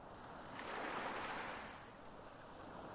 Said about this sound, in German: Du beobachtest die kleinen Wellen, die das Wasser bis zu deinen Fußzehen spülen. Du spürst nun das erfrischende Wasser an deinen Füßen.